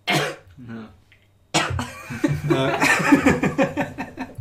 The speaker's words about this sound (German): Hast du das prominente Husten nicht gehört, um das nochmal zu verdeutlichen?